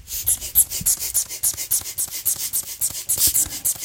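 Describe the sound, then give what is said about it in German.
A black rubber bellows bulb with a small hose of about 20 cm squeezed over and over in a quick, steady rhythm, each squeeze giving a short airy, hissing puff with a faint rubbery squeak. No one speaks. “Also, es quietscht ein bisschen. Es ist ein Blasebalg mit einem kleinen Schlauch, ca. 20 cm.”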